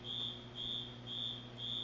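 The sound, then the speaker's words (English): A smoke alarm sounds off with four shrill, high-pitched beeps in a steady, rapid rhythm, over a low background hum. “Hang on, this thing's loud. I'm gonna hit it with a hammer.”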